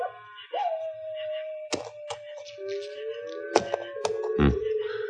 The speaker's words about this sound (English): For instance, that old owl and that coyote might even be talking to each other. Yeah. And they might be talking Apache language.